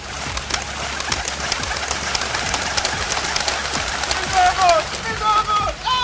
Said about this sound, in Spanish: Ahora con más palomas que nunca, las ratas del aire.